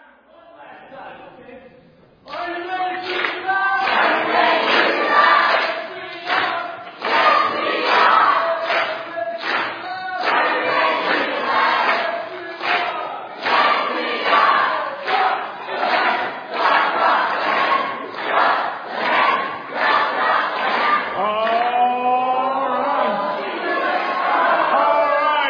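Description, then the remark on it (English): The green team crowd, joined by the blue team, gives a final loud, sustained group cheer, voices shouting together in rhythmic chant-like bursts for over twenty seconds, rising in pitch toward the end, after a brief quieter start. “Final cheer. Go ahead, green, and blue will join you as you do it.”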